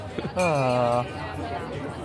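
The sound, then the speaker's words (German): A bell at a stall at the Cologne Christmas market rings once with a bright, sustained tone that holds for about half a second and then cuts off, over a steady background of crowd chatter and clinking. “Für die, die die Glocke hören, am Kölner Weihnachtsmarkt wird selten Trinkgeld gegeben anscheinend.”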